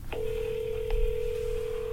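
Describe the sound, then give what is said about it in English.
A steady electronic telephone tone holds unbroken for nearly two seconds, marked by two brief clicks, one at the start and one midway, over a low background hum, with no voices, as someone calls a phone line. “I'm calling the phone line.”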